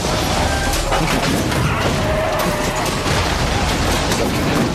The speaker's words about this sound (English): Is there an explosion from Bad Boys or something that we can get to spice this up?